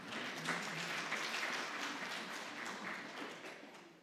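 A crowd applauds steadily, many hands clapping in a dense, even wash of sound that holds for several seconds before easing slightly at the end.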